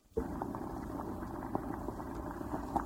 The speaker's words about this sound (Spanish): Cogió el saco y se lo llevó a la cocina. Allí calentó el aceite hasta que empezó a hervir.